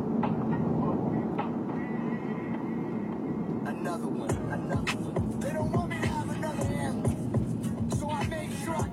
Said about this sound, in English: I'm gonna go through the car wash.